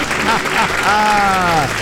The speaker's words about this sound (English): Count it down. Let's hear a debt-free scream. All right. 3, 2, 1. We're debt-free! And the crowd goes wild.